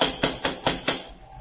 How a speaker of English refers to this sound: They don't seem to answer, do they? Try knocking again.